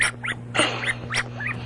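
A cat makes a quick run of short, high chirping mews, five or so rising and falling squeaks in under two seconds, fairly soft over a steady electrical hum.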